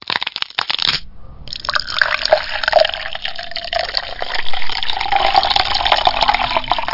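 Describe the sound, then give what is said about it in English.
A second of clinking and handling, then a steady stream of Canadian whiskey pouring into a tall glass with no ice, the gurgling pitch shifting as it fills. Fairly loud, with no voices. “Just sit the fuck down and pour me a tall glass. No fucking ice.”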